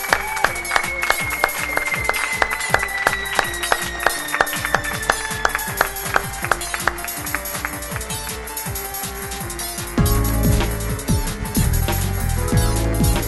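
A crowd claps and cheers steadily for someone entering the building while the theme tune of the show Superflux plays with a sliding tone; after about ten seconds fuller, louder music with heavy bass joins the continuing applause.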